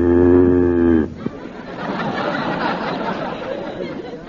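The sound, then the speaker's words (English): A cow in a classroom lets out one loud, low, droning moo lasting about a second, then the people in the classroom break into chatter and laughter. “what are you doing with that cow in the classroom?”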